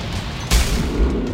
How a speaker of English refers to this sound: That was the sound of the trap tower destroying a whole bunch of guys.